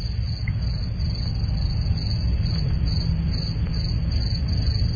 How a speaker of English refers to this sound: I'd like to compliment the Crickets again, though. They are 2 for 2, doing a fine job today. Very timely.